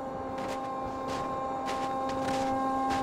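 A ney flute, played by a child alone, holds a long, steady breathy tone, its pitch barely wavering, with soft airy puffs rising and fading over a constant low background hum.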